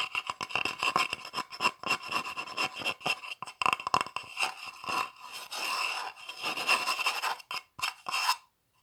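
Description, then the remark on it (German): Scratching on a wooden cupboard door from inside the dark cupboard, a dry rasping scrape repeated in quick, uneven strokes with brief pauses, fairly loud and continuous for several seconds, with no voices. “Als er daran zu kratzen beginnt, erkennt er, dass es die Schranktür ist.”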